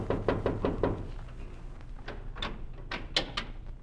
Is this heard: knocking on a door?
yes